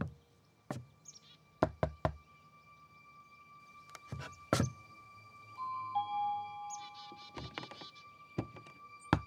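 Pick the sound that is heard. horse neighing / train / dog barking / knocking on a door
knocking on a door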